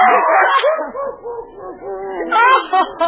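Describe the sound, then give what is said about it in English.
A dog chewing up a hat barks and yips in a quick, continuous run of short, whiny calls, fairly loud, with a few sharper yelps near the end. “He's eating my hat. Stop it, you dog.”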